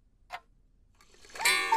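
A single crisp clock tick sounds, followed after a short pause by a bright, ringing chime that swells and grows loud. No one speaks.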